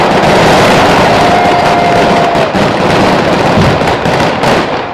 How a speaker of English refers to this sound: Why couldn't our firecrackers have done that? That's what I wanted. I wanted that kind of a bang.